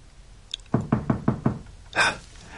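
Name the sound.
pounding on a door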